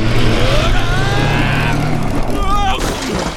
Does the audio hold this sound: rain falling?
no